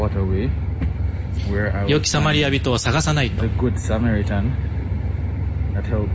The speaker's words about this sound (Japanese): バスに乗ったよ。